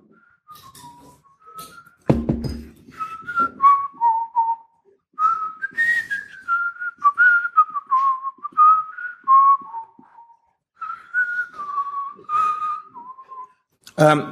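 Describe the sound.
A person whistles a bouncy video game theme melody, clear, in quick stepping phrases with brief pauses, with one short thump early on.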